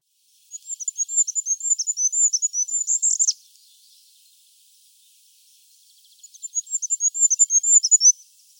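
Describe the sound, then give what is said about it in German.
Very high, thin goldcrest song: two bursts of rapid zi-zi-zi notes, each rising into a brief flourish at the end, separated by a few seconds of silence. Clear, with no voices. “Während der Brutzeit bauen Wintergoldhähnchen ein kugelförmiges, ziemlich cooles Nest aus Moosen, Flechten und Spinnweben.”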